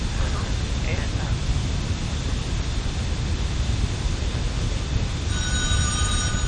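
A telephone starts ringing near the end, its tone cutting through a loud, steady rumbling noise that fills the whole recording, like a moving train.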